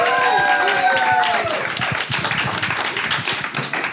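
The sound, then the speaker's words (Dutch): An audience of about 500 to 600 people bursts into steady, dense applause as two guests come up to the front on day 2 of Broadway, a continuous wash of many hands clapping, with a few voices and tonal sounds fading out early on beneath it. “Geef die een enorm applaus als ze hier naar voren komen.”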